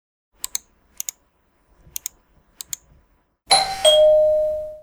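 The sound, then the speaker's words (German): Several sharp mouse clicks and quick key taps while shopping online, followed by a loud two-tone doorbell chime that rings out and slowly fades. “Nach wenigen Klicks hat man genau das, was man gesucht hat. Am besten am nächsten Tag und bis vor die Haustüre.”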